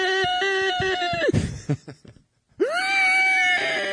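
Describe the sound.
A voice imitates a high-pitched, pterodactyl-like squeal: a loud, wavering shriek, a brief break, then a second sustained screech that swoops upward and holds.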